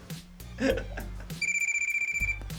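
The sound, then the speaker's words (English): An old-style telephone bell rings in a rapid, buzzing trill for about a second, loud and close, over a thumping hip-hop beat with heavy bass. “get the phone.”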